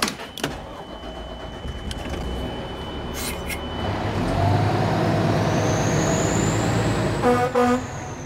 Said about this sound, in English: In case it's not clear here, that's Anna driving the fire truck. It's one of her favorite parts of the job.